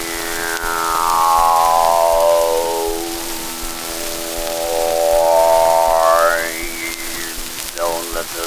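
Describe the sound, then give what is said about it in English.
A voice imitates the saw of a new sawmill, a droning whine that slides down in pitch, dips, then rises again before trailing off, loud with no other sounds. “Oh, it's pretty noisy since they built that new sawmill. All you hear all day is this.”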